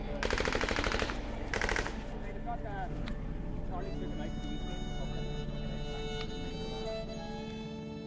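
helicopters flying overhead

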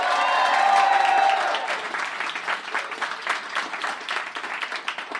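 audience round of applause

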